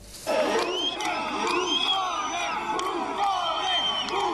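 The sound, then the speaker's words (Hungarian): Thousands of people outside Palazzo Grazioli, the Italian prime minister's residence in Rome, shout 'buffoon' and 'clown' at Silvio Berlusconi on a Saturday evening after he formally resigned. Rhythmic, repeated chants form a dense wall of voices rising and falling steadily, with sharp whistles cutting through. “A kormányfői rezidencia a Grazioli palota előtt szombat este ezrek pojáca és bohóc kiáltásokkal fogadták a lemondását hivatalosan benyújtó Silvio Berlusconit.”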